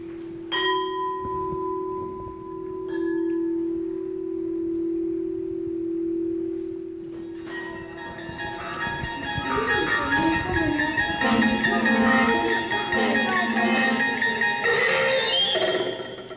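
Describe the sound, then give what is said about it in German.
Metal tube chimes, gently touched by two players, ring out, first with a couple of single strikes whose bright tones hang and sustain, then a denser, louder wash of overlapping shimmering notes with no voices. “Nur der Klang der metallenen Röhren untermalt das Bibelwort von der Quelle des Lebens.”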